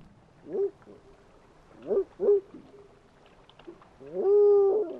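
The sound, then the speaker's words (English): A biologist mimics a spotted owl with low, hooting calls: one short hoot, a quick pair, then a longer, louder drawn-out hoot, set against quiet background noise. “Every biologist who calls spotted owls sounds different.”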